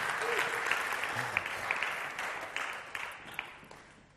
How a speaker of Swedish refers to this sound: Tack ska ni ha, lovsångare. Visst är de duktiga? Ja, men ge dem en applåd.